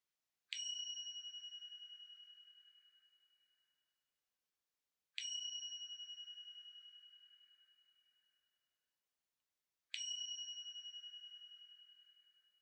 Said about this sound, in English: In just a moment, you will hear three chimes signaling the beginning of the meditation, and then individual chimes will alert you to the 2-minute transitions between each segment of this meditation.